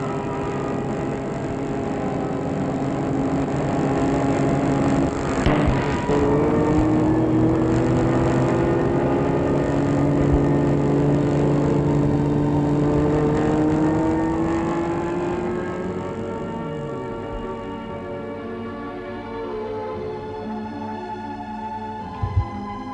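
A car engine drones steadily with shifting harmonic tones as the vehicle travels along a road with almost no traffic, a brief thump midway, then the engine note drops and fades toward the end.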